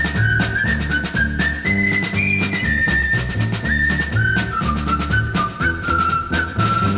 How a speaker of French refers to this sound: Et oui, la marche des gendarmes dans le gendarme de Saint-Tropez est un rejeton direct de la marche sifflée dans le pont de la rivière Kouai.